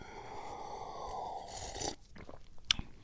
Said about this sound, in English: Now my cat's wigging out. My cat's running around in the room, attacking things, attacking the cardboard box, attacking her bandana, attacking a plastic bag, attacking a blanket.